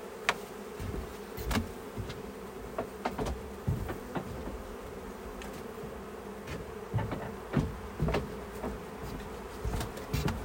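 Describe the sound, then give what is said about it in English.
A steady, dense hum of many honeybees buzzing around a hive, continuous, with occasional sharp clicks and knocks scattered through it and no voices. “I've also got some nurse bees in there, and I've got a frame of stores left over from last year, so they've got food right now.”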